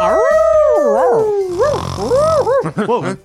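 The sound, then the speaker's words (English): A person imitates a confused dog howling, a wavering, sliding vocal tone that rises and dips unsteadily over a few seconds, loud, breaking into short yelping bends near the end. “Where's your howl noise? He was doing the confused dog.”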